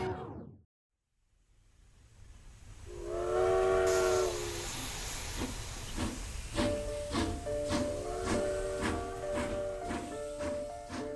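A steam locomotive pulling a special four-car B&O Railroad train sounds its whistle, then builds into loud hissing steam and steady rhythmic chuffing as it pulls away, with the whistle blowing again over the chugging. No one speaks. The train carries the president from the White House, Washington, on November 18, 1863.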